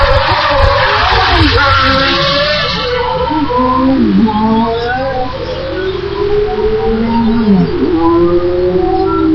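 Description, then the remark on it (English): Car engines hum steadily at moderate revs as the cars cruise back the other way along the course, their pitch gliding up and down as vehicles pass, forming a loud, continuous drone over a rushing background noise. “As you can hear, the cars are almost cruising.”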